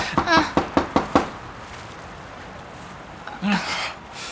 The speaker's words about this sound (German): Ich klopf mal. Es rührt sich nichts. Und die Tür ist verschlossen. Ich klopf noch mal. Vielleicht war ich noch nicht laut genug.